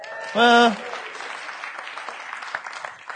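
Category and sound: crowd, round of applause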